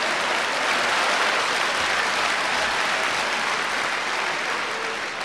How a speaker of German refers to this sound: Jubel im Lager der Turmspringer, meine Damen und Herren.